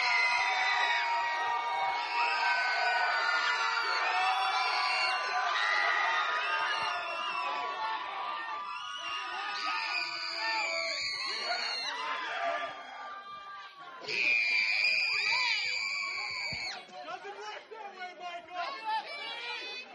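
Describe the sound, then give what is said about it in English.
Audience connection groups compete to scream the loudest: a large crowd screams and cheers loudly and continuously, with many overlapping high-pitched shrieks and shouts, swelling in a few bursts of louder excitement. “Shane will go to whatever connection group's going to scream the loudest for him”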